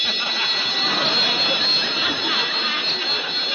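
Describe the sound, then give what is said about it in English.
A burglar alarm bell rings continuously for several seconds, a loud, steady, high-pitched metallic clatter that never pauses or changes pitch. “That ain't no phone. It's a burglar alarm.”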